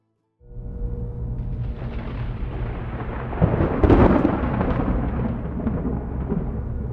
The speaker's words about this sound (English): Deputy Waylon Dupree winced when the first wave of thunder shook his patrol car. It was low and rumbling, as if the earth beneath him were crashing through the canopy of asphalt to take hold of him.